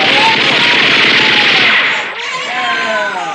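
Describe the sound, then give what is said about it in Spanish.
Loud, rapid bursts of machine gun fire rattle continuously with dense repeated cracks, aimed at men trying to escape in rowing boats, then thin out as shouting voices and cries rise over the din. “El bestial y gigantesco jato hace acribillar a los hombres que tratan de escapar en las lanchas de remos.”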